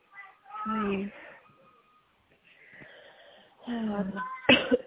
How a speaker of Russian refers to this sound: Что-то вы подкашливаете, разве так просто? Да, нет, что-то у меня кашель, да, грудом сидела, это кашель насморк вообще.